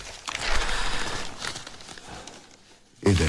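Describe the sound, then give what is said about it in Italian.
Crisp rustling and crinkling of newspaper pages being handled and shuffled for a couple of seconds as someone searches for an article, fading quieter before a voice briefly begins at the very end. “Vediamo se riesco a ritrovarlo, ma qua purtroppo, come dire, mi sto incartando nella carta, che è proprio il massimo, sono che chi deve maneggiare i giornali, però lo troveremo, ve lo prometto.”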